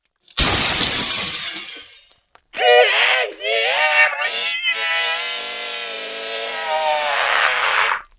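A burst of shattering window glass is followed by a girl's long, shrill scream that wavers in pitch and holds loud for several seconds.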